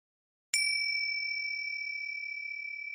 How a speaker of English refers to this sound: So when the gong rang, where was your mind? Were you sitting there doing nothing? Or were you perhaps thinking?